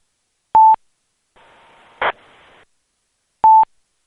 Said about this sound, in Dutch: Ik geloof dat het een terugkoppelingetje is van een repeater die af en toe signaal heeft.